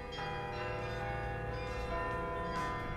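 The large bells of the ancient Martini Tower in Groningen, Netherlands, chime out a tuneful pop melody, their rich overlapping tones sustaining and blending continuously, with no voices present.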